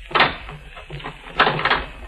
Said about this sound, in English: Oh, now listen. Lock the door. All right.